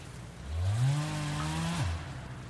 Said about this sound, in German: Papa, was ist das für ein Krach? Das ist Herr Mertens mit der Kettensäge. Er sägt einen Baum für Herrn Richter ab.